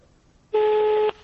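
A single telephone ringing tone sounds once as a call to a doctor rings before reaching voicemail: a steady electronic beep lasting about half a second, loud and clear with nothing else around it.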